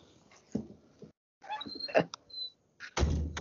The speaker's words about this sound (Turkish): Kapıyı kapatayım istiyorsan rahatsız oluyorsunuz. Kapatayım mı? Kapatayım mı?